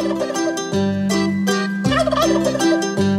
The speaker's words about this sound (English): A turkey is a silly bird. His head goes wobble, wobble. Yes, and a wild turkey was spotted in Midtown. That's right, over on 49th Street and Madison Avenue.